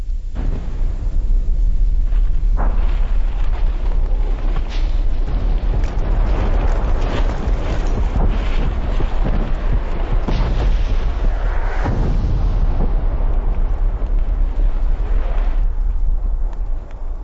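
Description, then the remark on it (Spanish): Continuous deep rumbling of volcanic eruption explosions as the upper vent begins throwing ash, with repeated heavy booms and bursts rising out of a dense roaring din, loud, with no voices. “La expedición contempla nuevas explosiones. El respiradero superior comienza a lanzar ceniza.”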